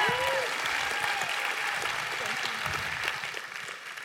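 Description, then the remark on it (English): Steady audience applause lasts about four seconds, a dense wash of clapping from a sizable crowd that tapers slightly at the end, with faint voices underneath. The applause welcomes a woman invited up to share her story of recovering from codependency. “She's also the one that gets you into groups, so give her a round of applause as she shares her story.”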